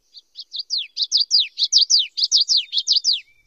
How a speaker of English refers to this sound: The common yellowthroat, a type of warbler, sings witchetty-witchetty from marsh edges.